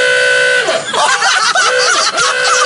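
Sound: car horn honking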